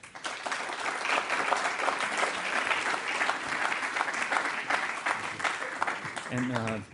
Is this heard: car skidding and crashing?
no